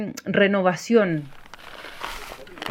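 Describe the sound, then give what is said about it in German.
A voice speaks briefly, then soft rustling and scraping follow as forestry agency workers fill plastic plant bags with soil to raise new trees, in a large greenhouse at the edge of the Pampa del Tamarugal nature reserve, a steady crinkly shuffle over quiet background noise. “In einem großen Gewächshaus am Rande des Naturschutzgebiets Pampa del Tamarugal füllen Mitarbeiter der Forstbehörde CONAF Plastiktüten für Pflanzen mit Erde.”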